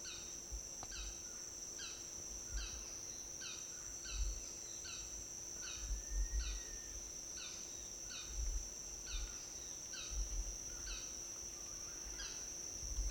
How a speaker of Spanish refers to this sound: En este bosque casco urbano hay avecillas que cantan, pero no las he podido captar. Hay varios cantando.